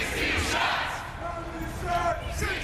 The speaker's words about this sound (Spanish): Cientos de manifestantes coreando 16 disparos recorrieron las calles del centro de Chicago el martes por la noche